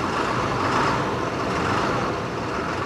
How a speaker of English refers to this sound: At 6 a.m., a mechanic starts an engine. This is the backup bus. It will stay here idling on the Robertson Transit lot in case any of the drivers has trouble.